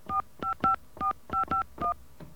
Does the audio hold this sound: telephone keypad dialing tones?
yes